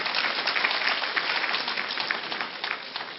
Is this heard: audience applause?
yes